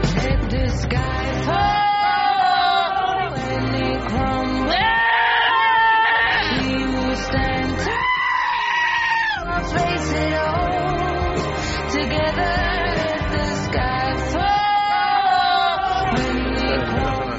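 Goats and sheep bleat in wavering, tune-following cries over a loud, continuous musical backing, the bleats swelling and breaking in phrases like a sung melody.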